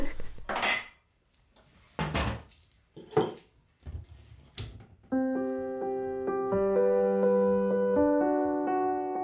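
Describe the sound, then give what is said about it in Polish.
Dishes and cutlery clink and clatter as dinner is served, in four or five sharp, irregular bursts over a few seconds, then a steady, sustained musical chord takes over and holds to the end. “To ty podaj tę kolację, a ja zrobię herbatę.”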